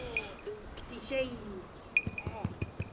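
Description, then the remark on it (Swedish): A small bell on a band fetched by Anja, a guide dog, jingles in bright, brief tinkles, then a quicker run of light rattling clinks, while a voice talks underneath. “ett band med en klocka i.”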